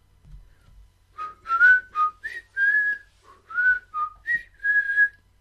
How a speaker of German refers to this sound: Ohne Zunge könnten wir nicht pfeifen.